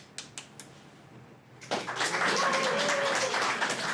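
A few scattered claps, then a sudden burst of loud, sustained applause from several people that keeps going steadily to the end.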